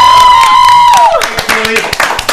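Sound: audience applause and clapping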